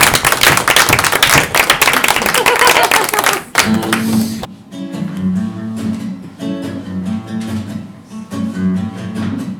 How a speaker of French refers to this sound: Merci à tous. Moi, je voudrais qu'on s'applaudisse. Ouais.